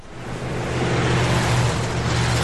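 A car engine drones steadily with a broad road rumble, fairly loud, holding an even, continuous hum for the whole stretch with no voices.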